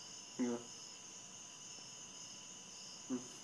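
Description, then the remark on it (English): A faint, continuous chorus of crickets chirping in a steady high trill, with two brief low vocal murmurs breaking in near the start and end. “The chirp of the crickets.”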